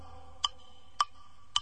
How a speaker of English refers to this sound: there was no sound at all but the clock upon the wall.